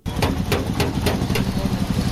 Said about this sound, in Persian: صدای چکش های پسر 14 ساله است که موتر را در ترمیمگاه محلی در شهر بامیان مرمت می کند.